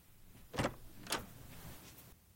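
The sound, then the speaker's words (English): A door opens as someone comes in, with two quick scraping clunks about half a second apart, followed by faint shuffling in otherwise quiet surroundings. “Knock, knock. Coming in.”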